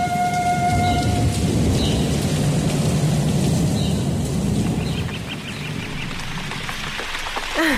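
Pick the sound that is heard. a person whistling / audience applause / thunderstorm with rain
thunderstorm with rain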